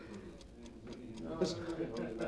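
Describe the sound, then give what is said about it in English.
A clock ticks steadily at a quick, even pace, its clicks sharp. Faint indistinct voices murmur underneath. “What's that clock ticking?”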